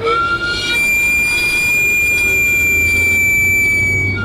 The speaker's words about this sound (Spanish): Es el inconfundible chiflido del camotero, un sonido que ha acompañado las noches de muchas generaciones. Y aunque parece un simple silbato, en realidad es el escape de vapor del carrito donde se cocinan los camotes y los plátanos.